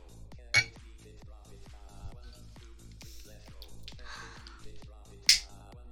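Glasses clink together in a toast, two bright, sharp chimes spaced several seconds apart, heard over a steady rhythmic background of music and low murmur.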